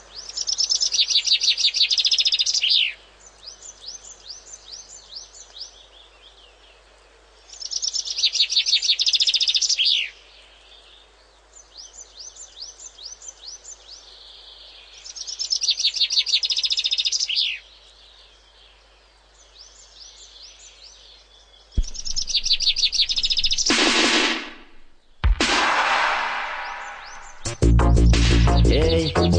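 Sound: chaffinch song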